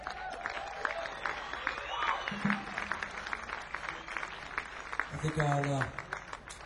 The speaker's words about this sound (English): How about a nice round of applause for these fellas?